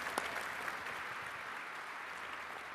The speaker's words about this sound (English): There we go. Round of applause. Now we go. We can start.